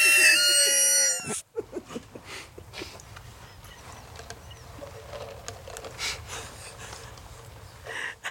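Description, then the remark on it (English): A loud yawn with a stretched, tonal voice rises and falls for about a second, then gives way to several seconds of low rumbling background noise. “Are you fucking yawning?”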